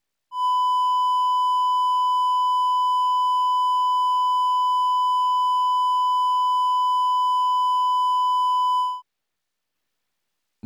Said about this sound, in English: Reduced to 5% total harmonic distortion, the 1,000 Hz clipped sine wave sounds somewhat more pure.